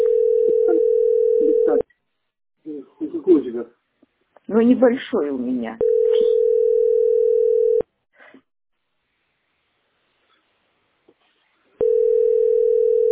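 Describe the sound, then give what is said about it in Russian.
A steady, unbroken telephone dial tone hums in three long stretches, each lasting a couple of seconds, as a caller fails to get through to pass on heating data, with someone speaking briefly in the gaps between them. “Не дозвониться мне сегодня.”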